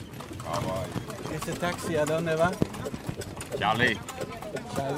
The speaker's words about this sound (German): Dort lief ich zur Straße Richtung Cayahabo und ein paar Minuten darauf hockte ich auf einer der vielen Pferdekutschen, die für den öffentlichen Nahverkehr in den meisten kubanischen Städten zuständig sind.